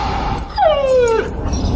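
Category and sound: animal, dog yipping and whimpering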